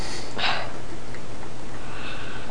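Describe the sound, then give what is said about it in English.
A voice imitates a woman's heavy breathing, like a train: one loud, snorting huff of air, followed by fainter breathy noise trailing off, with no talking. “And first thing you know, she's going, she's breathing like that, like a train, like a train, like that, okay?”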